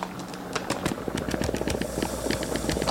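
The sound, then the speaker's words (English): Garlic and oil sizzle steadily in a pan after arrowroot starch is added, a continuous crackling hiss dotted with sharp, irregular pops and spits, fairly loud and with no voices over it. “Sizzle time.”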